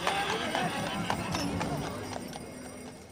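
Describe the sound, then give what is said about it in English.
Steady clip-clop of horse hooves pulling a carriage with riders through downtown Glendale, a regular rhythm of sharp knocks, with a faint murmur of voices and street noise in the background. “riding in a horse-drawn carriage through downtown Glendale.”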